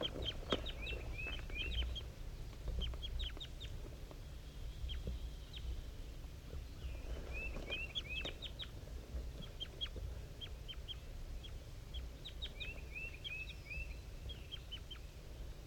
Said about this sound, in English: It's 7:50 a.m. and 5-3 and the wild bird are communicating here. 5-3 is a little bit higher pitched, and the wild bird is a little bit lower, up in the top of the dead pine.